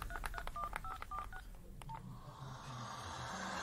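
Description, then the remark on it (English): A quick series of telephone keypad dialing tones as someone dials on a borrowed phone, about five short beeps in a row, a brief pause and one more, then a low steady hiss of line or room noise. “Can I use your phone?”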